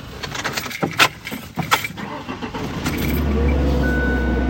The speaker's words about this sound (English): I'm getting in the passenger side because the driver's side door doesn't open from the outside. So I have to climb in the passenger side, reach all the way across and open the door.